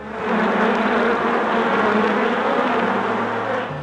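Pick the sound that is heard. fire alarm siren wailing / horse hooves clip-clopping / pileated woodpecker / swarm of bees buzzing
swarm of bees buzzing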